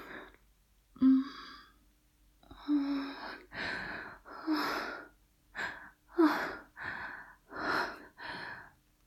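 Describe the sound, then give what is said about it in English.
A run of about nine heavy, labored breaths, some catching into short voiced gasps, coming in an uneven, quickening rhythm with no talking. “Do you have some trouble breathing?”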